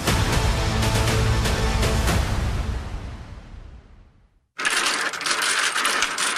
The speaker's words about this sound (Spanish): Ese sonido no necesita explicación. Es tan común en una ciudad como un pregón y tan común en el campo como el trueno y el canto de un gallo. Los cubanos respiramos profundo cuando chocan esas fichas a la voz de ¡dale, dale, dale, mucha agua!